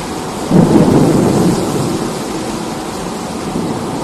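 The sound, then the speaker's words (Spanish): A rumble of thunder swells early and fades over about a second, while steady heavy rain hisses throughout a thunderstorm in Vigo; no voices are present. “Pues este fue el sonido que dejó la tormenta en Vigo.”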